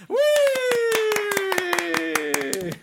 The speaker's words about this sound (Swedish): Herregud. Alltså gud, jag skulle vilja ha en stor applåd.